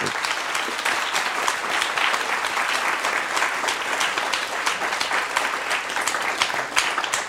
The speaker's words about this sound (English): So please give him a hand.